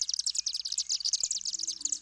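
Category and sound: bird, swift calls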